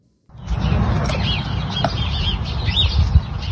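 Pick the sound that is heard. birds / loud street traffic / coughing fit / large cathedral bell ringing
birds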